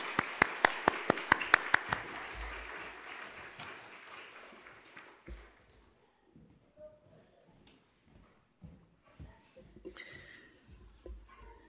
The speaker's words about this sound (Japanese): また先生からいろいろな話を聞けると思いますので、拍手を持ってお招きしたいと思います。